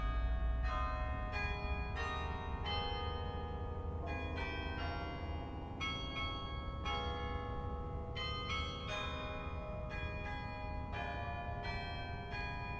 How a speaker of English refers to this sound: to take notice of, oh, the bells are playing. People who come for tours often tell me, I thought it was a machine that played the bells. So that's something that I hear quite often.